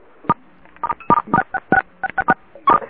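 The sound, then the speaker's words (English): A quick run of about a dozen telephone keypad touch-tones, short clear beeps pressed in an uneven rhythm, fairly loud with no talking, as callers press *6 on a phone line to mute their background. “Now, if we could ask everybody to please hit *6 so that we could have the background muted out.”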